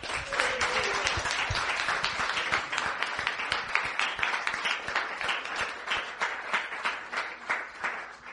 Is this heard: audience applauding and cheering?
yes